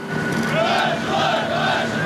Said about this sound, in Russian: Приветствие экипажа подлодки класса «Варшавянка» не может заглушить даже шум двигателей.